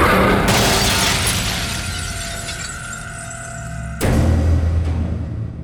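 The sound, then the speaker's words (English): A mirror shatters as a jaguar bursts through it, with a loud crash, a bright burst of breaking glass that rings and tinkles as shards settle, then a second heavy crash and low rumble near the end. “The captain barely had time to scream before the jaguar burst through the mirror.”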